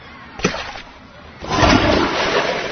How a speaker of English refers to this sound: Simon says, flush your cell phone.